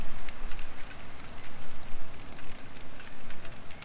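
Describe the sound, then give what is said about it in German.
Steady rain falling, a dense, continuous patter of drops with brief brighter splashes scattered throughout, no voices. “Du hörst jetzt frisch aufgenommenen Regen aus der letzten oder vorletzten Woche.”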